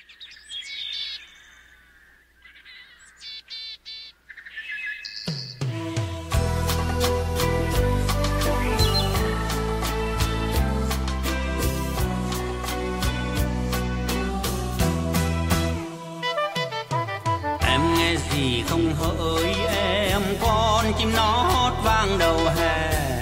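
A few seconds of bright, twittering bird chirps lead into the full instrumental introduction of a Vietnamese song, with a steady beat, bass and layered melody, loud and continuous with no singing.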